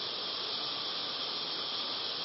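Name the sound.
heavy rain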